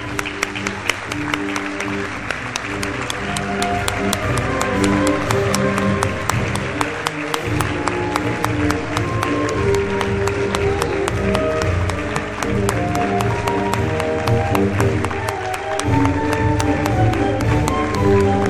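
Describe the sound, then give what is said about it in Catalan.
Loud, sustained applause from a large crowd fills the whole stretch, dense clapping holding steady throughout, with some sustained musical tones running beneath it. “Un fort aplaudiment.”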